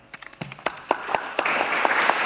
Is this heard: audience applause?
yes